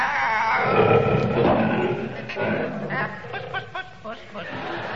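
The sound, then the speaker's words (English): A loud, rumbling lion roar fills the first couple of seconds, then fades into scattered voices and short, choppy vocal sounds. “Do you think it's a lion, Ellington?”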